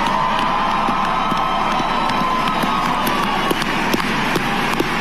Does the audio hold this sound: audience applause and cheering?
yes